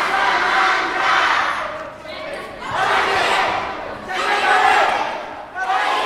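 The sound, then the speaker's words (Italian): Children playing in San Donà on an afternoon shout and cry out together in high, excited bursts that swell and fade in waves, a lively overlapping din of festive, playful yelling with no clear speech. “Queste grida festanti dominano i pomeriggi sandonatesi da molto, moltissimo tempo.”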